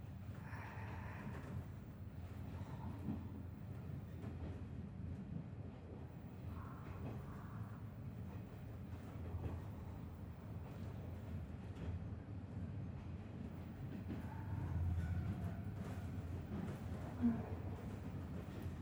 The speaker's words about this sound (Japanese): 客車そのものの立てる音を、レールの歌う声を楽しみたいならディーゼル牽引の方がいい。蒸気牽引ではどうしても蒸気そのもののブラスト音やドラフト音が聞こえ続けてきて